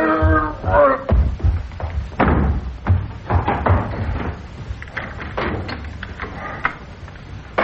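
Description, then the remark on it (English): A front door is opened amid a flurry of loud clunks, knocks and thuds, with a brief voice at the start and scattered rattling hits continuing throughout. “open the front door.”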